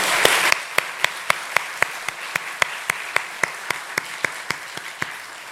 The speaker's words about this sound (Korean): 우리 하나님께 감사의 박수 한번 드릴까요?